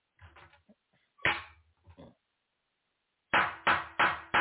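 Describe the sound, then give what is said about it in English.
A wooden gavel bangs once, then after a pause strikes four times in a quick, steady rhythm. The blows are loud and sharp, with some brief murmuring sounds near the start. “She influenced me to go get this gavel.”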